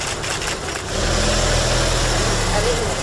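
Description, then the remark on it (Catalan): A car driven by her husband carries Carme Forcadell out of Mas d'Enric prison in the morning: its engine rumbles steadily at a low, mid-range pitch, growing fuller after a moment as the vehicle pulls away, with a constant hum and faint noise over it. “Forcadell, ara ho estan sentint, ha sortit de la presó amb un vehicle conduït pel seu marit.”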